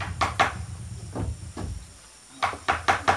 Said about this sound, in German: Aber schon um 6 Uhr dringt durch die Ritzen der Bretterwände wieder das Hämmern und Bohren.